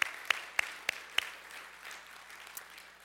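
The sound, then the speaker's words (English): Congregation applause for mothers at a Mother's Day Sunday morning church service, with five sharp, evenly spaced claps standing out over a soft wash of clapping that gradually fades, plus one last stray clap near the end. No one speaks. “Let's give them another great big round of applause this morning.”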